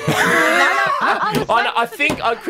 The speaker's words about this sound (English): I thought I heard you slapping your knee there. You were doing knee slapping.